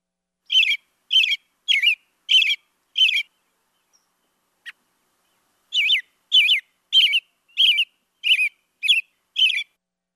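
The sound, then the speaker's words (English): An American robin sings a series of short, clear, warbling phrases, five in a quick run, a brief pause, then seven more, loud with no talking. “And let's listen next to a robin, which is certainly one that we often see and probably hear around us.”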